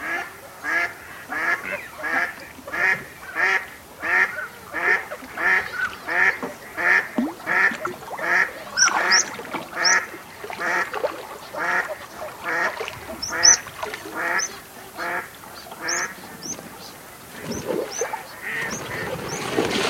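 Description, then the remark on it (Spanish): A northern shoveler duck that has just landed on the water quacks in a steady, rapid series of short nasal calls, somewhat distant, with faint high whistles from other birds joining partway through. “Algo más alejado, parpa el pato cuchara que acaba de amerizar.”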